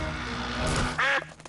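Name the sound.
duck quacking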